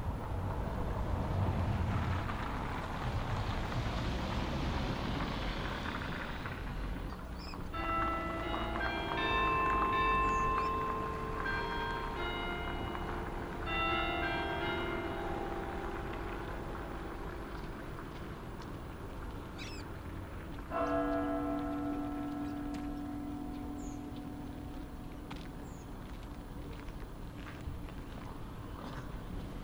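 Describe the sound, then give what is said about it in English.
A church bell strikes one o'clock in the afternoon, several resonant chimes with long ringing decays, followed by a single lower, fuller strike, all over a steady rumble of passing car traffic. “Wow, the church has just struck one.”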